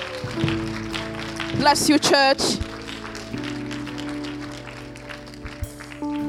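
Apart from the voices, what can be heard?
audience clapping hands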